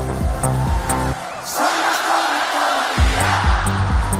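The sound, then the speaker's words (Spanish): A large audience in Malmö cheers and screams loudly and continuously in an energetic ovation over pounding music that briefly drops away midway, leaving only the roar of the crowd. “Bueno, impresionante, éxtasis total, algunos llorando en casa, han aplaudido, han chillado, hemos cantado, hemos vitoreado,”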